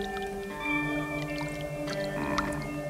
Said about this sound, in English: Can I just say that music, those creepy, slight little tones, that occasional chime, that is not the sound that you would associate with like a sword and sandal movie, you know, the kind of epics we picture from this time?